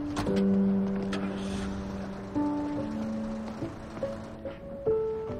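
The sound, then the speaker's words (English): A truck engine hums steadily, its droning tone shifting a few times as it revs and the truck drives off, then carries on without any voices. “Travis gets into his truck.”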